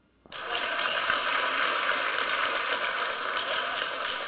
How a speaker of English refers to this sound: That sounds like rain.